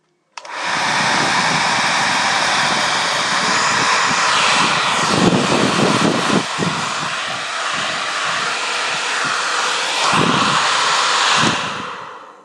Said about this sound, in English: Let me just leave you with the sound of my latest innovative product. It's called an iPhone dryer, and it's a special kind of app you can get, and this is what it sounds like.